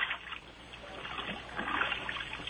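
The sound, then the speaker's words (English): Continuous sloshing and splashing of water in a bathtub, moderately loud, with small surges of movement throughout and no voices. “And I noticed the flailing in the water.”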